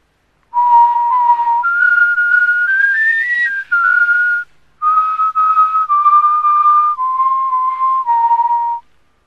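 A person whistles a simple tune alone, clear, with steady sustained notes stepping up and back down across several phrases, a short pause midway.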